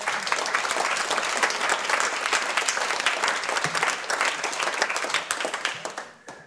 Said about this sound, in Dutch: Dames en heren, een applaus voor Jan Siebelink.